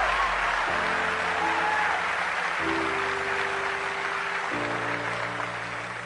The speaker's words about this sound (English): I don't know why you're clapping. I'm talking about you.